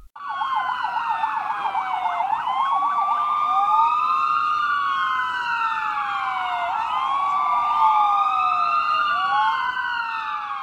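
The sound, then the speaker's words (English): Several loud wailing sirens, sounded as a warning and alarm over the starvation and health situation in a besieged strip, sound together, their pitches sweeping up and down in overlapping, unsynchronized cycles, with a fast warbling tone at the start. They wail continuously throughout with no voices. “Quote, "Our sirens today are the voice of the hungry and the bereaved who are left to die without the minimum means of survival," the ministry said.”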